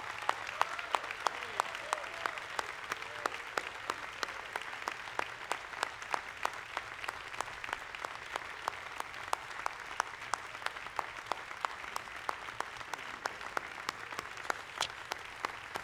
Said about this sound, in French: Les gens s'est levé pour applaudir.